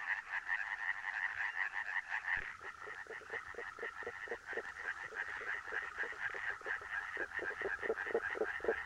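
Faint, muffled calls of a western spadefoot toad, emitted underwater so only part is audible, pulse in a steady rapid rhythm against a continuous chorus of other frogs croaking.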